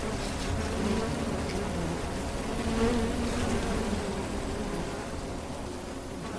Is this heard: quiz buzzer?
no